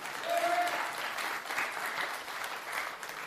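An audience applauds steadily, a dense wash of many hands clapping that holds for the whole stretch, with a brief high whistle-like tone near the start.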